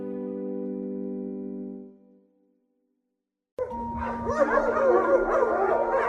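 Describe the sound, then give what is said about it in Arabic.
A sustained musical tone fades into a short silence, then several dogs bark and yelp continuously in a street over a noisy outdoor background with a steady low hum. “عشان الشارع ده مليان كلاب وانا بخاف منهم قوي.”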